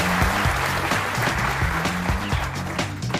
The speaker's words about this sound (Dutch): Wat een applaus. Lekker, hè?